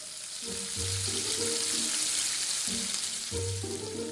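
Fish sizzles steadily on a grill, a dense crackling hiss filling the whole clip, with faint low tonal hums drifting in and out underneath. No one speaks.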